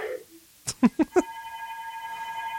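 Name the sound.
telephone ringing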